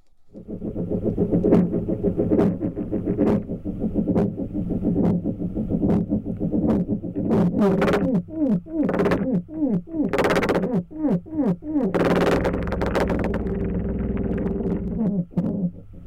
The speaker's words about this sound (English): No, it's not an old fan belt on an old Buick. That rhythmic thumping is being made by a spider. Yeah, a spider. And it wasn't just bringing the noise, it was bringing the funk, gyrating and tapping all eight of its feet, waving its arms